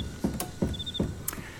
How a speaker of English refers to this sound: And thank you for the chirping crickets.